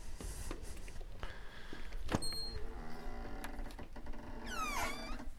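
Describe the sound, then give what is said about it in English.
The door of a bookmobile that delivers free books to Eugene and Springfield opens with mechanical clunks and rattles, followed near the end by a brief wavering squeal as it swings. No one speaks. “This segment's called Books for the People, and I'm opening the door now.”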